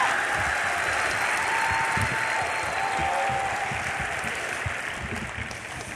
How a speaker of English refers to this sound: Notice something about open forums. I've done 50 of them, right? Every time, all the applause, and every time I walk on, it all dies. 50 times.